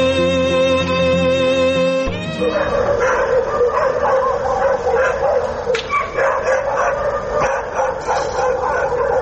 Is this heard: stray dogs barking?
yes